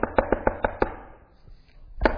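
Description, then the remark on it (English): A quick series of five firm knocks on a door, evenly spaced, followed by a short silence and then another knock near the end. The knocking is fairly loud, with no voices. “Roll over in bed and pretend you didn't hear the knocking.”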